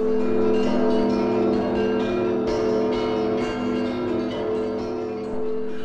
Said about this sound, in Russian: Город Киев встретил богатыря и забаву путятишну колокольным перезвоном.